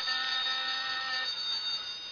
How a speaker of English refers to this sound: This phone's ringing.